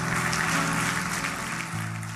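An audience at a church service applauds loudly for the King of Kings in a steady, dense wash of clapping that lasts throughout, with sustained keyboard chords droning underneath and shifting near the end.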